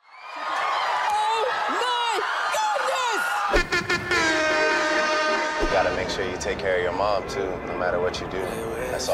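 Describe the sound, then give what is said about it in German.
A studio audience of housewives screams and shrieks with joy, many high-pitched voices overlapping in loud, sustained excited cries that swell and keep going throughout. “Solange Hausfrauen vor Freude schreien, ist alles gut.”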